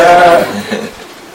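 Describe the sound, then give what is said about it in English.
A single loud, nasal peacock call rings out, a short harsh wail that fades quickly into quieter background noise, in Vrindavan (Brajadham). “You find everywhere the peacocks and the call of the peacocks.”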